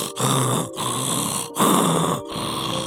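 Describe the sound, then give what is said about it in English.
A person imitates a leopard's sawing call with four harsh, rasping breaths in a steady back-and-forth rhythm, each stroke loud and gravelly with a brief pause between. “You know, a leopard call is called sawing, and it is truly like a sawing. So we heard this call, and I can imitate this.”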